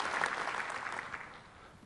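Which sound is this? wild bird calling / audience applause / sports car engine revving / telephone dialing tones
audience applause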